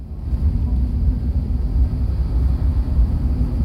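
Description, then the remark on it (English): A rally car engine, imagined as driven by a cat around the inside of a living room, growls in a steady, deep rumble, its low throb surging and dipping slightly as it drives around, with no voices present. “a cat very enthusiastically driving a rally car around the inside of a living room.”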